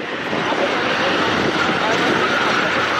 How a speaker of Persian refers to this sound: صدای تانک‌ها و خودروهای زرهی اسرائیلی در اطراف نوار غزه. ارتش اسرائیل خود را برای یورش زمینی به غزه آماده میکند.